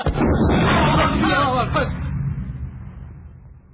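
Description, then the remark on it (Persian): Distant cannon fire heard at 11:40: a loud, broad rumbling boom that holds for about two seconds, then fades into a lingering low rumble. “صدای قرش توپ ها از جای دور به گوش میرسه.”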